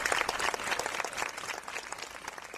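Dense applause from an audience at an outdoor classical music concert, a steady rush of many hands clapping at once, loud and continuous with slight swells, and no clear voices rising above it; a fountain splashes.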